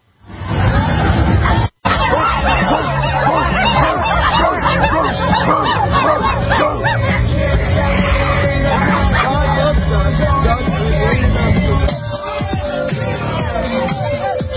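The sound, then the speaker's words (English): A loud, dense crowd of Pride marchers in Seattle shouts and jeers nonstop at a man reading the Bible, with overlapping yells, babble and sharp barking cries at him; a brief cut breaks it near the start. “This is a man reading the Bible, and pride marchers taunt him, shake their butts in his face, shake their genitalia in his face, and bark at him.”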